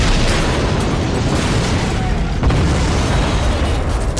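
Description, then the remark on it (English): The stern of a gunboat explodes into flames: a loud, continuous roar of blast and fire with heavy low rumble, swelling with a second burst about halfway through. “The stern of the gunboat erupted into a violent ball of flame.”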